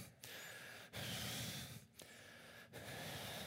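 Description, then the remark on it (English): A voice imitates the hard, angry breathing of men praying: four heavy, noisy breaths in and out, loud, each separated by a brief pause, with no talking. “Maybe when they prayed, they were breathing hard.”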